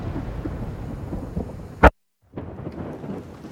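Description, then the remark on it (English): Heavy rain pours down in the woods in a steady, dense hiss with a low rumble, broken by one sharp loud crack, a brief dead silence, then the downpour resumes. “James and Lisa continue to hold hands as she leads him through the woods while rain pours down.”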